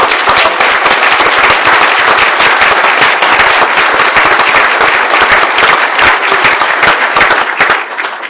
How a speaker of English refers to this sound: Please stand up for a round of applause. We need to honor them for that.